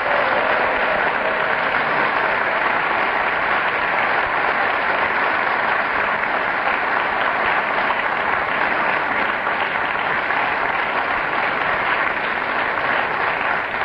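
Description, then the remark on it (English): The studio audience of the radio show Just a Minute applauds the week's winner, Peter Jones, steadily for about fourteen seconds, a dense, even wash of clapping that stays loud throughout with no voices over it. “Audience, this applause shows that they enjoyed you winning, Peter.”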